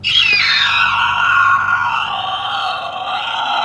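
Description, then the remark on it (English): A woman's voice imitates a creature's screech to create creature sounds, shown in the documentary Grounded: a single sustained, strained shriek that starts high, bends downward and holds a raspy, harmonic-rich tone for several seconds. It stays loud throughout. “She started giving us these really great screeches.”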